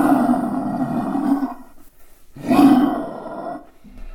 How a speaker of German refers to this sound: Papa, Achtung, Löwen!